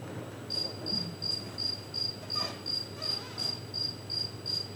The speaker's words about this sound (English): And this is a speaker, and there's a speaker on kind of our side as well. And this is a female cricket, and in the speaker they're playing male cricket song, and the female one is trying to get to the male cricket song. To the male cricket.